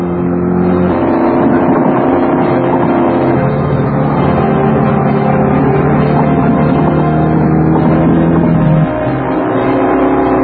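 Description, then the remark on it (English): Loud engines roar and rev continuously as cars speed along, the pitch shifting up and down with acceleration, like a high-speed car chase with no voices. “I think you get a sense that they're hauling ass here.”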